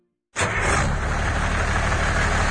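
An old, polluting diesel vehicle engine starts up abruptly and settles into a loud, steady, rough idle with a low rumbling clatter, with no voices.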